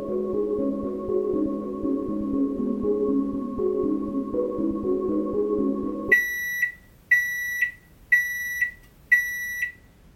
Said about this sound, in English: The microwave screamed.